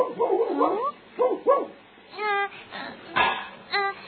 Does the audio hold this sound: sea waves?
no